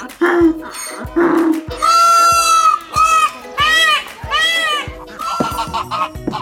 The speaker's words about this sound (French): Dans l'ordre, tu viens d'entendre un âne qui braie, un paon qui braille et une oie qui cacarde.